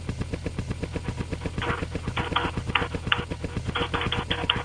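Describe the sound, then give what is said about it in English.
Rapid, steady clicking of someone typing on a mechanical keyboard, rattling along in a fast even rhythm with occasional brighter clacks, moderately loud with no talking. “Is that a mechanical keyboard?”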